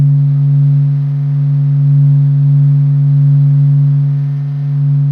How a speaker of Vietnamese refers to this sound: Những gì bạn đang nghe là âm thanh của mặt trời, được NASA ghi lại. Những âm thanh vo ve nhỏ đó là do các hạt chuyển động liên tục gây ra.